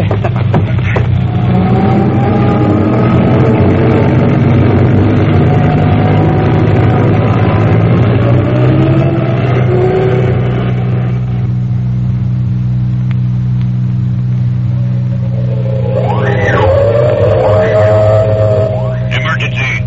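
A milk truck's heavy engine rumbles steadily, then revs up with rising pitch as the truck pulls away, its loud, low drone filling the whole stretch.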